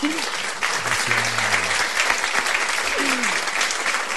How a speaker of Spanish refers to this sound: Ay, los aplausos. Qué bueno, muchísimas gracias, ¿eh?